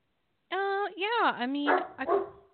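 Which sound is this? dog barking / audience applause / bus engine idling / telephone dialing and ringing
dog barking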